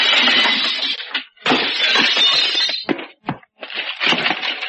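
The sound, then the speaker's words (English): Glass breaks loudly in several heavy crashes, each followed by scattered shattering and tinkling debris, with short gaps between the bursts and no voices. “Watch out for the flying glass, sailor.”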